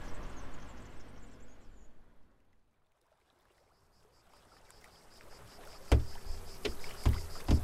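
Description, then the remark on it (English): Water laps and swishes around a small canal boat, fading to near quiet before returning, then a few loud wooden thumps ring out as someone steps aboard. “Weren't you just saying how much you love canal boats?”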